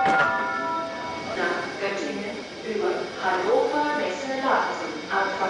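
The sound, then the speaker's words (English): Busy train station ambience at a central station in Berlin in the morning: a steady wash of commuter chatter and footsteps over a constant mechanical hum from trains, continuous and moderately loud throughout. “But among the commuters we spoke to at Grand Central Station in Berlin this morning”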